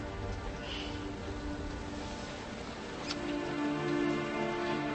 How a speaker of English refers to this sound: Even this rain?